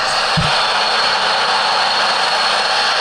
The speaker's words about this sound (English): That's the machine. And if you listen carefully, you can hear the cracking of wood. There they go cutting down more stuff while this big machine is stacking it up.